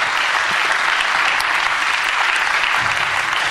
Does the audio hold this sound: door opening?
no